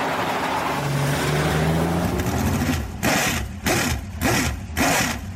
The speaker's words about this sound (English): The first time we fired that engine up, in the car just leaped off the ground just from the power of it at idle was something that I'll never forget for the rest of my life. And I couldn't wait to get it out of gear.